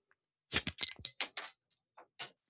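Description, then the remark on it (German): A glass bottle of alcohol-free Helles beer is opened, a quick cluster of sharp clicks and bright glassy clinks with a faint ring, then one more click a moment later. No one speaks. “Und das mache ich jetzt hier live auf.”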